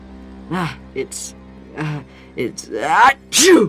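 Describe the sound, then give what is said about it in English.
A voice performs a theatrical sneeze in an old, dusty school: several drawn-out, breathy 'ah' build-ups with hissy intakes, ending in a loud, explosive 'choo'. It's fairly loud. “It's dusty. Bless you, says a mysterious voice from the shadows.”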